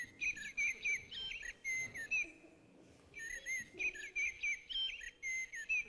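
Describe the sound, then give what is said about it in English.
A blackbird sings clear, fluting phrases in quick succession, pausing briefly midway before resuming with more warbling notes. The song stands alone without any talking. “Shall we listen to our blackbird one more time”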